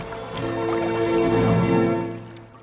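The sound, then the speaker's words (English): Water pours and gurgles into a large wooden bucket being filled at a stream in dark woods, a steady filling sound that swells and then tapers off over a couple of seconds, with no voices. “Cosette walked through the dark woods to the stream. As she filled her large wooden bucket, she didn't notice the coin Madame Thénardier had given her fall through a hole in her pocket and into the frigid water.”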